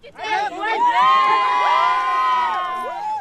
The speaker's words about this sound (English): So you hear cheers there and some celebration. I also saw quite a few tears of joy.